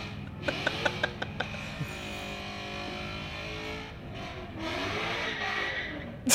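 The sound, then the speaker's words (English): A car burnout: tires screech in a continuous, wavering high-pitched squeal over a steady engine roar, with a few sharp clicks at the start and the noise swelling louder near the end. “Like, so for all the listeners, this is what a burnout sounds like, just screeching audio.”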